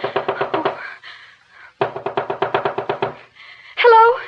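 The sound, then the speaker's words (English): Two quick, loud bursts of rapid knocking on the door of a doctor's house, about a second each with a short pause between, followed by a brief voice calling out. “Anybody home? Oh, please come to the door.”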